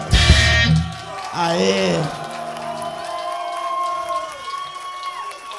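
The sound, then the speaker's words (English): A loud burst of crowd noise gives way to sustained, high-pitched screaming from an audience of girls at the front, shrill overlapping voices cheering continuously. “Uia, pensei que era microfonia, o berro das minas.”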